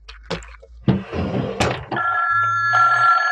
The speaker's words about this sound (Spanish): El teléfono repiquetea sobre el buró y Calimán se apresura a descolgar.